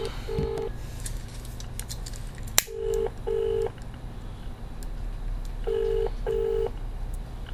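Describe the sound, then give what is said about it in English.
A telephone line tone sounds after a call has been hung up, in short, steady beeps that come in pairs with pauses between, over a low background hum, with a sharp click partway through. No one speaks. “I cannot believe that the phone has just been put down on me, and I wasn't shouting.”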